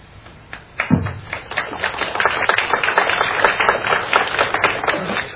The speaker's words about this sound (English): We don't need to applaud after each time, so that'll burn up a little few seconds here and there. So we'll have one big round of applause at the end for both of our participants.